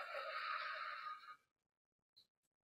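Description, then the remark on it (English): A single long, breathy exhale blown out slowly through pursed lips as if through a straw during a breathing exercise, steady for over a second before fading into silence, followed by a faint tiny click. “Blow out through a straw.”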